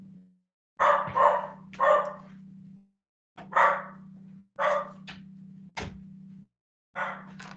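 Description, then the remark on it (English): A dog barks repeatedly at something outside in short, loud bursts, about six or seven barks in an uneven rhythm, with a steady low hum running beneath them. No one speaks. “I don't know what he's going after, something outside. Stranger danger, you know?”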